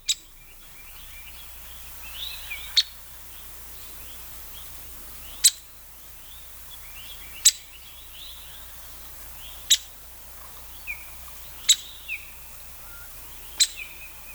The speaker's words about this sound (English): Well, I'm excited to profile the downy woodpecker. This is our listening area's smallest species of woodpecker. We have two different vocalizations of the downy woodpecker to share with you, so let's start with the simple call note here.